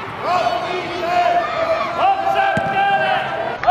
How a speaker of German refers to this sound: Sie klatschen, beschweren sich beim Schiedsrichter und rufen den Spielerinnen gut gemeinte Ratschläge zu. Zwischen ihnen wird es immer wieder ruhig und man hört die Spielerinnen kommunizieren auf dem Platz.